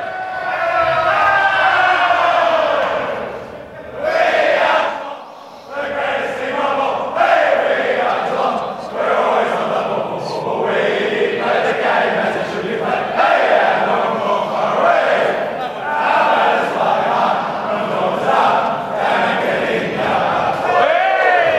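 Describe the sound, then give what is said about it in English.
A rowdy group of voices loudly chants the Cats' club song after their 21-point win over the Saints, the singing continuous and ragged, dipping briefly a few seconds in before surging back strong to the end. “Let's have a listen to the song from the Cats.”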